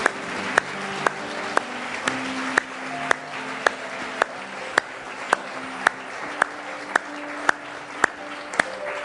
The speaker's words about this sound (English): Can you give them a hand clap and encourage them?